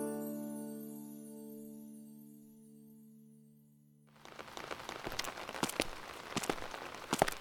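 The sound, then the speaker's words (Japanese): A lingering musical tone fades out, then steady rain begins during the rainy season (tsuyu), a dense hiss with sharp, irregular drops pattering on a hard surface. No one speaks. “ずっと雨ばかりね。嫌になってしまうわ。”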